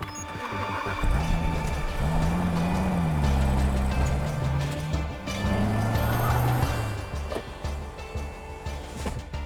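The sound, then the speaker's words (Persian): A Superfine car, the only one, made for the McAllister company: its engine hums steadily, the low drone rising and falling in pitch as it revs gently, with a constant mechanical rumble and no voices. “ماشین خوبی آقای دار.”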